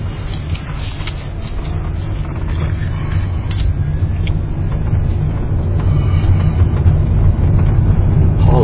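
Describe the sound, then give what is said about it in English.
A truck drives past right behind the person recording, with a loud, continuous low engine rumble and road roar that slowly swells over several seconds, with no one talking. “Here comes the truck. Right behind me. I have to get out of that guy's way.”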